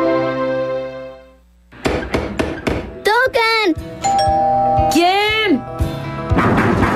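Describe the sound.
A doorbell chime rings out and fades away over a second or so. It is followed by a flurry of sharp knocks and clatter, with excited voices calling out over the noise.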